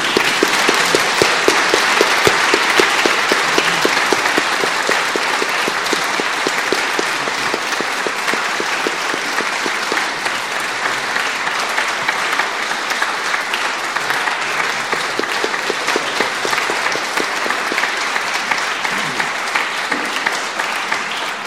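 Sustained applause from a church audience, a dense, steady wash of many hands clapping at once, fairly loud and even for about twenty seconds with no voices on top.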